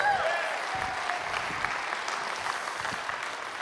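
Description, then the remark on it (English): An audience in a room applauds a woman after her reading, a dense wash of clapping hands that holds at an even, moderate level throughout without pausing. “Let's give her a hand.”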